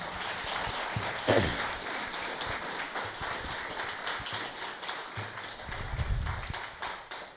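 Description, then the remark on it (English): A crowd applauds steadily for several seconds after a testimony at a recovery gathering, a dense, even patter of many hands clapping at a fairly loud level, with no voices standing out. “Well, I think that deserves another round of applause, y'all.”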